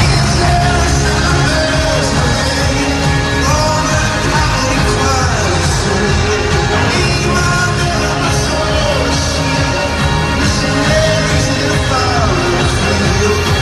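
A large concert crowd sings along loudly and steadily, with shouts and cheers rising out of the dense, continuous wall of voices throughout.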